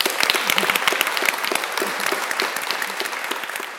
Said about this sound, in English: So for now, please join me in a final round of applause for our speakers, Abdulrahman and Morag.